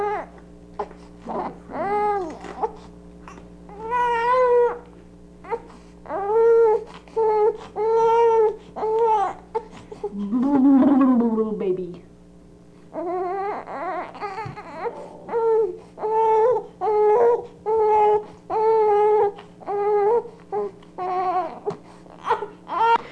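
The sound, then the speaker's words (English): An infant wails in a long series of loud howling cries, each burst rising and falling in pitch, with a rougher, strained cry in the middle and no talking. “Crying because it's kind of interesting howling anyway.”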